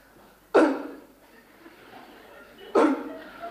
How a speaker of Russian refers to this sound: Так, тут вы два раза кашляете.